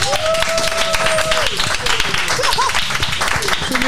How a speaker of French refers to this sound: On peut applaudir les présentatrices aussi.